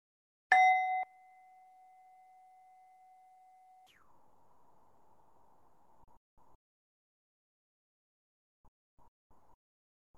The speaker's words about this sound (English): When you hear the bell, we can finish.